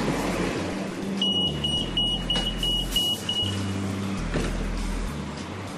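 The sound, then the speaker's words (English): A TriMet city bus in Portland, Oregon rumbles with a steady low engine drone while a rapid series of high, piercing door-warning beeps sounds for a couple of seconds, clear. “I just got off of a TriMet bus”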